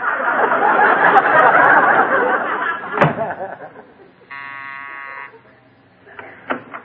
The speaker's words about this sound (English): Go outside, I'll close the door, and ring the bell again.